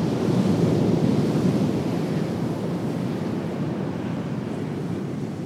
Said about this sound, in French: Elle est ceinturée par des récifs coralliens sur lesquels les vagues viennent se briser.